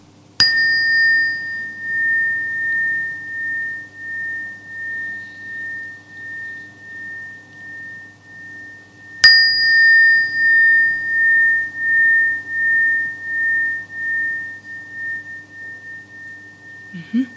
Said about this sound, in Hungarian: És ő egy kis csengettyű vagy harang. De nincs nyelve. Nincs nyelve, így van. Úgyhogy őt is a kisebb fejütővel fogom megütni.